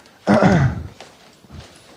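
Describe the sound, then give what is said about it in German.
A chair is pulled up with a loud, half-second scraping screech that slides downward in pitch, followed by a couple of soft knocks as it settles. “Und ich kann hier mir einen Stuhl nehmen erstmal.”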